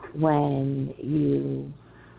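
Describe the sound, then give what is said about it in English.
Two drawn-out, low, hollow coos in a row, each rising sharply at the start and then holding a steady pitch, fairly loud, with a faint hum left after the second. “Pretty bird.”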